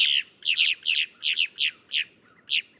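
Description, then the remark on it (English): A boat-tailed grackle gives a series of about eight harsh, raspy squawks in a steady rhythm, loud and high-pitched with a brief gap before the last call, and no voices present. “But other grackles are pickier about their habitat, like the boat-tailed grackle, found in tidal zones along the Gulf and Atlantic coasts of the U.S.”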